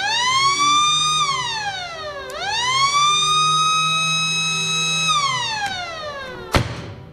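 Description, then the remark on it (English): The massive original 1924 Barton pipe organ in the Hibbing High School Auditorium, a historic theater in Hibbing, Minnesota, sounds loud, rich, sustained tones that swoop down and up like a wailing siren, then end with a single sharp percussive crack. No one speaks. “And among many distinct features, it's the massive pipe organ that you hear right now.”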